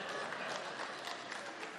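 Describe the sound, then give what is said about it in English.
An audience claps in a dense, steady wash of many hands, with faint individual claps popping through. The applause holds at an even, moderate level with no voices above it. “Don't clap or you're guilty then.”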